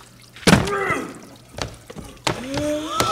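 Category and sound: household object, door being opened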